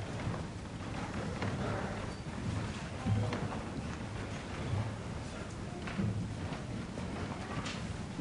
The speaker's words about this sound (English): Just listen to the footsteps as we gather. Listen to the movement of this body.